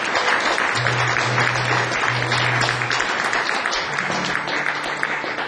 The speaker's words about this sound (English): a big round of applause for them.